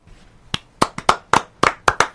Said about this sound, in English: I clapped.